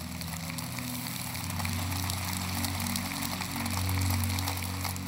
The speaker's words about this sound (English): So 3, 2, 1, we'll hit commit and then let's just clap and thank God for what he's about to do.